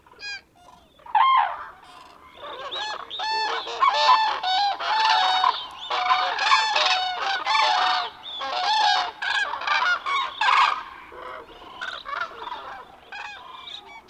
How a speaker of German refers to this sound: Der Lärm des Gekrächzes und Trompetens einer großen Gruppe von Kranichen ist kilometerweit zu hören. Das Geschrei ist ohrenbetäubend. Der Kranich ist einer der lärmendsten Vögel, die es gibt, und der Hauptdarsteller in diesen Momenten.